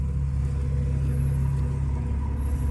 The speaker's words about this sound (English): Is that your bus? No, I'm telling you, no.